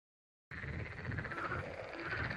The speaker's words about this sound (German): Okay, hier bricht gerade das Frosch-Armageddon aus.